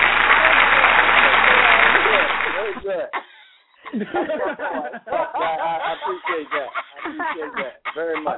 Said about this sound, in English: Give him an applause for his effort.